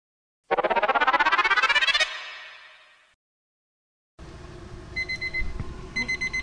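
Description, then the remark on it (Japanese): A kitchen timer, set for 11 minutes while boiling pasta, rings loudly in a rapid, trilling burst for about a second and a half, then cuts off and its tone lingers briefly; afterward, kitchen noise with soft intermittent beeps follows as cabbage is added to the pot. “じゃあタイマーが鳴ったのでホイルバスケットにキャベツを加えますね。”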